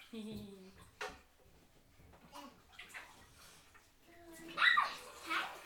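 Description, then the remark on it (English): Water runs and sloshes in a big bathtub of water, with uneven splashy bursts that swell louder near the end, while a child and an adult speak now and then over it. “Well, there's quite a big bath of water here.”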